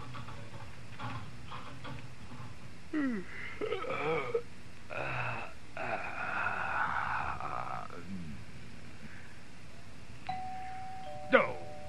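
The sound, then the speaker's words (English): At a family home, a doorbell chimes near the end with a clear, sustained two-tone ring, following a stretch of muffled voices and rustling earlier on. “Doorbell's ringing!”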